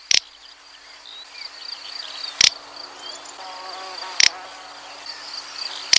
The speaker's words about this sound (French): Cet oiseau, c'est l'outarde canepetière. Il s'agit d'une espèce que l'on retrouve principalement dans les steppes semi-arides, mais qui trouve refuge dans les parcelles agricoles du fait de la disparition de son habitat naturel.